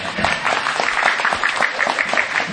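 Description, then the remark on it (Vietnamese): A crowd claps steadily, dense overlapping applause at moderate loudness, with a few voices faintly mixed in beneath the clapping. “Đó, cái gì vỗ tay đi.”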